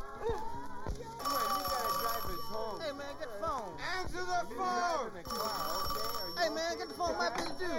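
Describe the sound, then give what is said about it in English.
A telephone rings with a steady, shrill electronic tone that repeats throughout, fairly loud, while voices talk over it. “Don't answer the phone, man. You got that? Don't answer the phone.”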